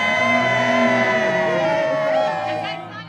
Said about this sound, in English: yells, "Cheese," and cameras click away.